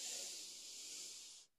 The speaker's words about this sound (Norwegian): Ok, da starter vi med å puste godt inn med nesa.